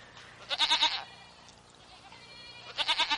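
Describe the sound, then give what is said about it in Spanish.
A goat in Finland bleats twice, each call a wavering, shaky cry about half a second long, the second coming after a quieter pause; clear with no talking. “Mirá qué buena la cabra.”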